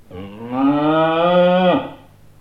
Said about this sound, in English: That was one of my cows. Do you keep cows too?